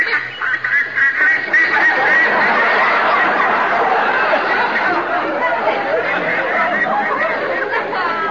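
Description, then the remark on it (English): A large flock of ducks flying overhead in a V formation quacks continuously, dozens of overlapping calls forming a loud, dense, chattering din that holds steady for several seconds with no pauses. “Ducks have got no right to fly in a V formation while there's a war on.”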